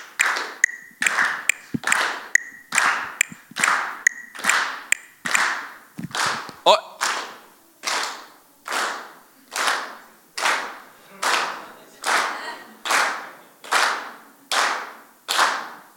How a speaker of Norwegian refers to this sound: Så at nå skal vi klappe på 2 og 4. Ikke lov på 1 og 3. Overhovedet ikke lov. Klappe på 2 og 4. Dere klare? 2, 3, 4, 1. Klapp.